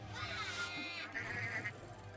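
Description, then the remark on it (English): Sheep bleat in two wavering, drawn-out cries that run together, loud and nasal with a shaky vibrato, over a steady low hum. “Oh my, what kind of bad, bad person would steal a sheep?”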